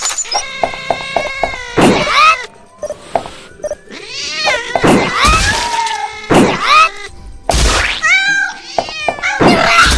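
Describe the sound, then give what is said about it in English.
An agitated cat yowls and caterwauls in loud, drawn-out wails, several harsh cries overlapping in quick succession, intense, with a few sharp knocks between them and no talking. “Because the cat's gone, but it's still playing the cat noises.”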